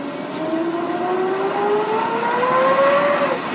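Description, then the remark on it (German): A helicopter in Colombia powers up for takeoff, its engine whine climbing steadily in pitch over a constant, fairly loud roar. No voices are heard. “Eine halbe Flugstunde später setzten die Hubschrauber in hügeligem Gelände auf.”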